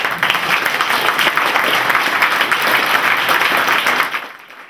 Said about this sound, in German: schauen Sie durch die großartige Unterstützung der Schüler dieser Schule. Auch da brauche ich jetzt einen Applaus.